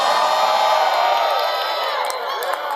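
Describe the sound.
A crowd cheers and whoops loudly and steadily, a dense wash of many voices shouting together for the full few seconds, with a slight dip near the end.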